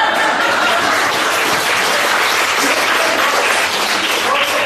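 A crowd applauds steadily for several seconds, a dense, loud wash of many hands clapping at once with no pauses and no clear voices standing out.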